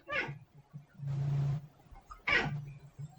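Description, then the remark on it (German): A domestic cat meows twice, fairly loud, with a low rumbling, purr-like hum running underneath and a brief breathy hiss between the two calls. No one speaks. “Also es sieht ganz aus, als hätte ich einen neuen Interviewpartner, meine eigene Katze.”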